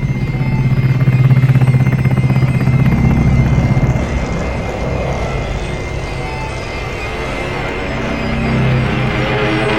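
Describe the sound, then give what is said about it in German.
A loud aircraft engine, on a plane that has just left Swedish airspace, drones steadily with a rhythmic, rotor-like throb, then its deep hum falls away and the sound weakens before surging back near the end, as if the engine is faltering. “Hörst du das? Verdammt, der Motor!”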